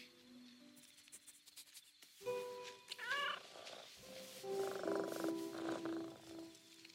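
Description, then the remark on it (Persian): A cat purrs with a low, steady rumble, joined by a few short meows and chirpy vocal sounds partway through, with no talking. “آره چه پیشی خوبی، چه پیشی خوبی.”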